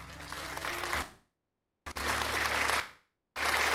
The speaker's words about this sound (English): Oh, let us applaud for Jesus Christ of Nazareth.